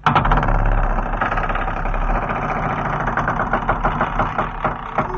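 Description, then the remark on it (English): The hinges of a French door creak open in one long, loud, grinding groan, a rough stuttering rasp that drags on for about five seconds with no voices over it. “Those hinges need oiling dreadfully.”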